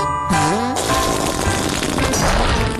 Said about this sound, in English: It broke the chair.